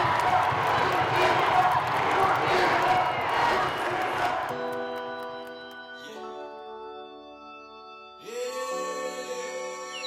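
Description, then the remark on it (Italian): A whole stadium crowd roars and shouts together in a single cry, a dense, loud wash of voices for about four seconds, then the noise drops away into sustained, steady tones. “Senti tutto lo stadio. Fa un solo grido.”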